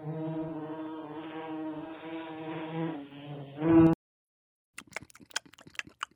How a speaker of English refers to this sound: Well, listen closer. Oh, yeah, I can kind of hear a fly buzzing around.